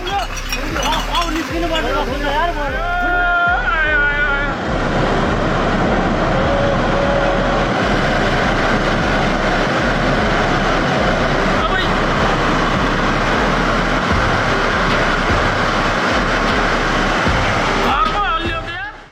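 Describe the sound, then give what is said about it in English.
A mountainside landslide after the monsoon season crashes into a river with a loud, sustained roar of tumbling debris and churning water sent up in splashing fountains, rumbling on steadily for the whole stretch, with a voice briefly audible early on. “It crashes down into the river, sending water fountains splashing and disrupting its usual flow.”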